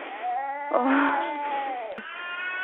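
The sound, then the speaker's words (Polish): A small boy cries in sustained, high, wavering wails that rise and fall in pitch, with a brief catch near the end before the crying resumes. The sound is thin and tinny, heard over an emergency phone call. “Ale dobrze, jak się odzywa, płacze, to jest dobrze.”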